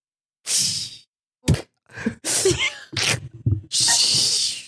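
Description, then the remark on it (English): A voice imitates food sizzling with long, breathy hissing bursts, bright and fairly loud, broken up by short clicks and mouth noises before a final sustained hiss. “Stop making the sounds. I'm doing the sizzling.”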